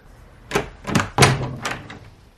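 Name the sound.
door being opened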